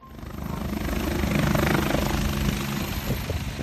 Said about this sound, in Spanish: nuestro piloto José cierra la puerta y el helicóptero empieza a subir para acercarse al foco activo